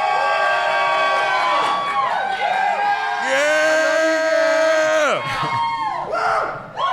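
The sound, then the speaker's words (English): A few voices imitate a roaring crowd at a beer release event at the Three Notch RVA Collab House in Richmond, Virginia, whooping and cheering with rising and falling hollers that stay loud for several seconds before breaking off. “We are on location at the Richmond, Virginia, Three Notch RVA Collab House for the release of East Coast Local, the collaboration with Geeks Under the Influence and Three Notch Brewery, and the crowd goes wild.”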